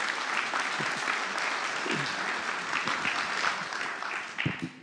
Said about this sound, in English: How about a round of applause for the Spencers?